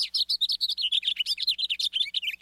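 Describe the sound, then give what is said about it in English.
A house finch sings a rapid, melodic warble of high, jumbled notes that tumble along without pause, with a buzzy note near the end, fairly loud and alone with no talking. “Here's a house finch, more melodic and with a buzzy note near the end.”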